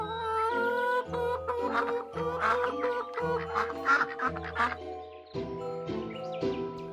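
Chickens, geese and ducks quack and cluck in rapid, overlapping bursts, fairly loud, over a steady background of sustained musical tones. No one speaks.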